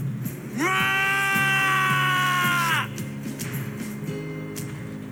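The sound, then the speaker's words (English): A single loud, piercing monster-like shriek holds steady for about two seconds, apparently voiced by a person, over a low rumbling, warbling background that continues after it stops. “I now speak Shriek fluently.”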